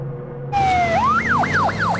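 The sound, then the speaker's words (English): A police car drives past on a bustling city street, its siren starting with a descending tone, then breaking into a fast, repeating rising-and-falling wail, loud over a low rumble of traffic. “When a police car drives past, the sound of its siren appears to her like flames.”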